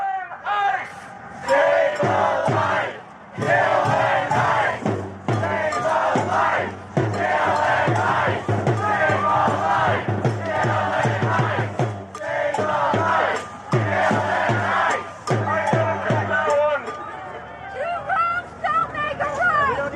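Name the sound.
large crowd shouting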